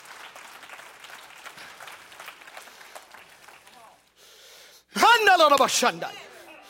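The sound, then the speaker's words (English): An audience gives God a clap of praise in a dense, steady patter for about four seconds, then the clapping thins and a loud, strained voice shouts over the room. “Somebody give God a head clap of praise in here.”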